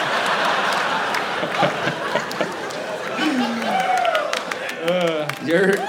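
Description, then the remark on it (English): Audience applause started by a group of friends, a steady dense patter of many hands clapping at a fairly loud level, mixed with voices calling out and cheering over it. “And your friends are starting the applause.”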